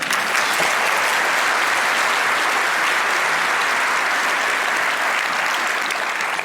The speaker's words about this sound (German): Und bitten Constanze Kurz und Rainer Rehack auf die Bühne für einen Kurzvortrag über die Bundesverfassungsgericht Ultras. Ein Applaus.